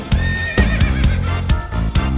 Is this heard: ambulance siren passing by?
no